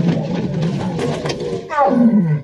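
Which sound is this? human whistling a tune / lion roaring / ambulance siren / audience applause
lion roaring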